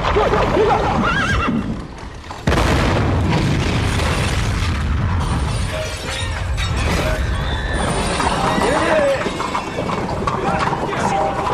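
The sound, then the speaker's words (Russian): A sudden loud explosion bursts in after a brief lull in a film scene shot on a street of the Mosfilm set, followed by a dense, chaotic roar with horses whinnying and hooves clattering, and indistinct voices mixed into the din. “А вот, собственно, взрыв там, вот все это на той улице.”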